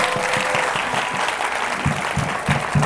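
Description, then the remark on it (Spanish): An audience applauds steadily, giving the applause to the Lord, a dense wash of clapping that stays loud and even throughout, with a faint voice briefly rising beneath it near the end. “Dale el aplauso si se lo va a dar al Señor, por favor.”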